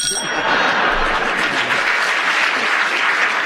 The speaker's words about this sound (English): Deserve the round of applause.